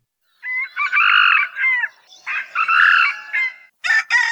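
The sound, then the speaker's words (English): Two loud red jungle fowl (moa) crows, each a harmonic, rooster-like cock-a-doodle-doo lasting over a second, followed by a short burst of sharper clucking calls, with no voices present. “We got their call thanks to the Macaulay Library at the Cornell Lab of Ornithology”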